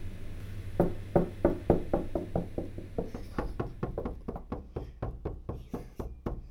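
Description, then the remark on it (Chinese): Rapid, steady knocking on a door, many firm raps in a continuous run, fairly loud, with no talking. “里面有人吗？开门了。”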